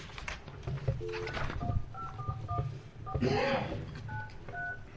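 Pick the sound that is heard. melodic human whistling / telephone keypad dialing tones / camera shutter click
telephone keypad dialing tones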